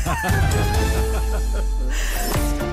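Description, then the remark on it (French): A loud, nasal voice imitates a duck, letting out a rapid, continuous run of raspy quacks, with a brief pause before one last burst. “Je ne suis pas un canard.”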